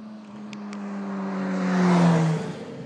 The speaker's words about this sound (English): This could be a rather boring boo if I keep on recording the sound of traffic, which has presumably mostly come off the A4 out of London. Pouring westwards.